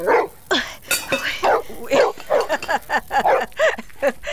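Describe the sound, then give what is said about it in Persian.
A dog beside a family tent pitched at the foot of a mountain barks loudly in a rapid, insistent string of about a dozen sharp barks, with only brief gaps between them. “این سگ پالوی خیمه ما چرا غوغو میکنه؟”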